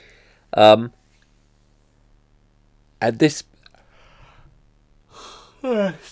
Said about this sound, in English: Yawning a lot today.